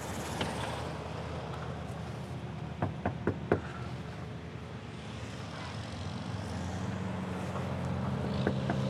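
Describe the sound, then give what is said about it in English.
Four sharp knocks on the door of a one-story house in a small neighborhood, in quick succession, over a steady low rumble of outdoor background noise, with no voices. “As I knocked on the door, I peered inside the window a bit and saw someone walking around.”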